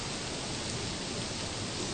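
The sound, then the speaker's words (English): A steady, even hiss of rain falling, continuous and fairly soft throughout, with no voices or distinct drops standing out from the wash of sound. “So rain is making class long, huh?”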